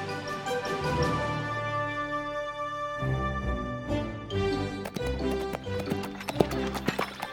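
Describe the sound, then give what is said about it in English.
Horse hooves clip-clop in a quick, uneven rhythm, joined by a horse's whinny, all set against steady sustained tones that carry through the whole stretch. “Ugh, good horses are so hard to find.”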